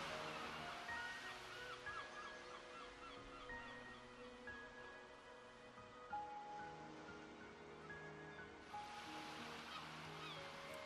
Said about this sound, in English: There are noises, the sigh and drag of gentle waves, the call of seagulls.